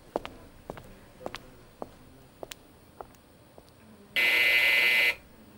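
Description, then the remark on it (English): A nurse call buzzer gives one loud, harsh electronic buzz lasting about a second, preceded by scattered soft clicks and taps. “If you need anything, just ring the buzzer.”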